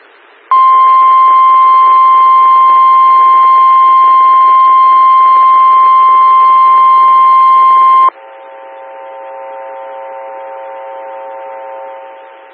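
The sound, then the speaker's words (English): A loud, steady electronic alert tone for a severe thunderstorm warning holds unbroken for about eight seconds, then gives way to a softer, lower steady tone until the end. No one speaks. It precedes a National Weather Service Chicago severe thunderstorm warning for counties in north-central Illinois. “Attention, severe thunderstorm, warning.”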